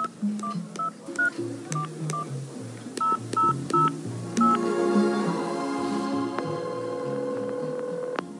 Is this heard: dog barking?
no